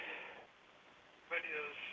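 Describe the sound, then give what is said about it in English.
Quiet, tinny voices from a caller's radio murmur in the background, coming through in two short muffled bursts over a phone line. “You got your phone. You need to turn your radio down.”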